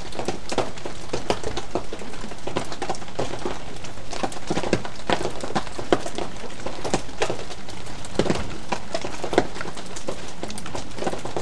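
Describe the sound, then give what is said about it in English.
Steady rain patters without pause, with countless small drops tapping irregularly over a dense hiss, and a low, constant hum from the kitchen fridge blending in underneath, picked up by a microphone set quite loud. No one speaks. “Anyway, I'll shut up now and you can continue listening to the rain and the fridge.”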